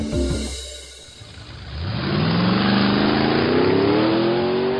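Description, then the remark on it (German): A car engine turns over and catches, then revs up steadily with a rising pitch as the vehicle pulls away, loud, with no voices. “Den Wagen anlassen, losfahren, ankommen.”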